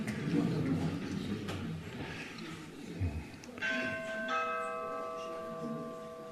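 Bells ring outside, their long sustained tones swelling in partway through and hanging in the air over a low background murmur, moderately loud.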